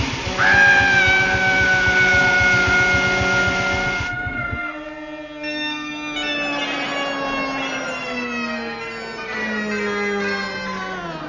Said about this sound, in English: Dear listener, the sound that you've just heard was that of a 100-ton steamroller passing slowly over Neddy Seagoon and his nickel-plated bagpipes.